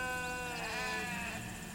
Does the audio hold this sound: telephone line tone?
no